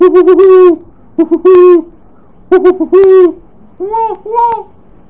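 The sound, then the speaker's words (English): A voice imitates an owl hooting, giving several loud hoots in short bursts with brief pauses between, ending on two softer, rising hoots. “An owl hoots.”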